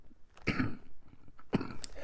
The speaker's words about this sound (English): And I'm coughing. Yes. I've been dealing with a little throat thing.